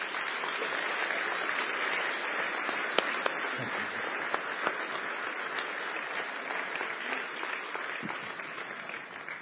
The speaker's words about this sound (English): let us give him a round of applause.